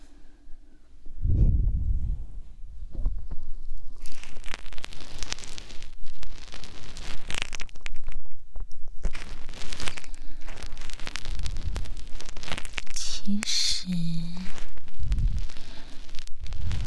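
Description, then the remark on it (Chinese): Ear-picking ASMR sounds: dense, crackly scratching and rustling that runs steadily throughout, with a few soft low thumps early on and brief squeaky tones near the end. No one speaks. “你这样掏耳朵的时候突然动是很危险的，乖乖躺好，不许乱动了，听到没？”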